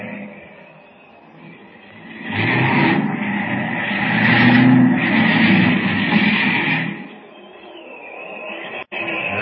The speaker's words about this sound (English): Look, the plane's gonna land. There he goes.